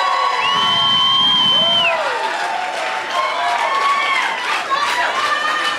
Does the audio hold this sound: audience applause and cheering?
yes